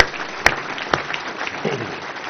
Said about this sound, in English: So thanks again to the students, and please help me give them another round of applause.